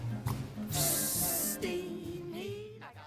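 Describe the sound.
A loud, bright hiss like escaping steam heat bursts out for under a second in a Broadway song-and-dance number, set against brassy music with a low melodic line sliding underneath before the band carries on.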